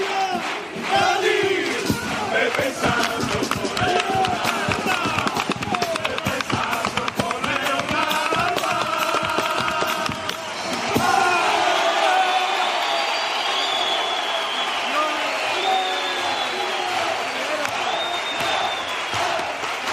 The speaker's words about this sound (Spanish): Aplaudiendo este segundo cuplé, que no es que el otro, vamos, no lo mereciera ni mucho menos, porque está dando un pase esta chirigota espectacular.